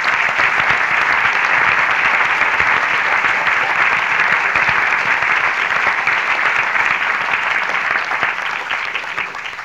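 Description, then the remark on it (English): An audience at a banjo extravaganza concert claps steadily for a guitarist, a dense, loud wash of many hands that holds for nearly ten seconds before beginning to thin and fade at the end. “Don't get too heavy into the applause for the violin and guitar.”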